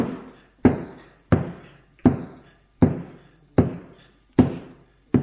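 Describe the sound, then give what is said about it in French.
A man bangs repeatedly on an upstairs window boarded up with planks, eight heavy, hollow thuds at a steady pace, each ringing briefly before the next. Loud, with no voices. “Il faut rentrer, il a fermé la porte derrière lui et court vers une fenêtre qui est condamnée avec des planches. Il cogne dessus.”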